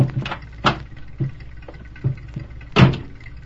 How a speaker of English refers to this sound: Ed Rohr pulled his truck up to an idling stop.